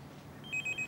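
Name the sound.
mobile phone ringing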